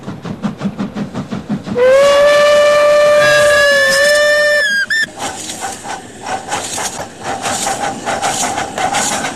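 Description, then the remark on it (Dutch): A steam train chuffs in rapid rhythmic puffs as it arrives at a small station on the line between Apeldoorn and Dieren in the Netherlands, then a long, loud steam whistle blows for a few seconds before the chugging and hissing resume. “Soms zelfs is het druk op zo'n klein station, als de ene trein er alweer aankomt, terwijl de andere nog niet is vertrokken.”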